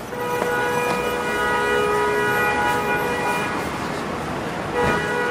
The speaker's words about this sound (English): New York City, the city that never sleeps, a vibrant soundscape of construction, trains, traffic. New Yorkers hear it 24 hours a day, 7 days a week. You know, this.